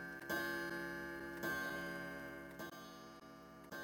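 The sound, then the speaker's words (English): A china clock on a mantelpiece strikes twelve in slow, evenly spaced chimes, four bright bell tones heard about a second apart, each ringing on and overlapping the next. No one speaks. “A china clock on the mantelpiece strikes 12.”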